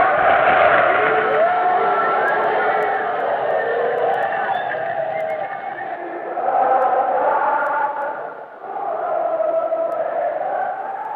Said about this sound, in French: C'était donc l'ambiance dans un bureau de vote, et vous entendez dans les cris de joie, évidemment, des militants, je pense aux socialistes, qui sont ravis d'entendre les résultats.